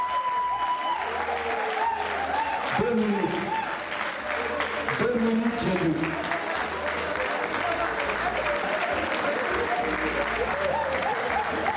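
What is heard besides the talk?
audience applause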